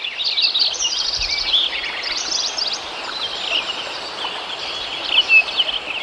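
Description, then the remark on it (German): Dense outdoor chorus of many small birds trilling and chirping at once over a steady high insect-like hiss, with no voices, recorded in 1988 in Lincoln Meadows, a mountain meadow in the Sierra Nevada, southwestern USA. “1988 machte Krause Aufnahmen in Lincoln Meadows in der Sierra Nevada”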